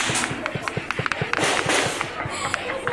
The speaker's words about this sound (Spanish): Aquí no hay dónde salir, jefe, para arriba. Nada más agáchense, agáchense, porque aquí están pegando los tiros.